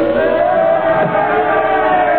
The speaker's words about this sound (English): Crowd, they're yelling something at...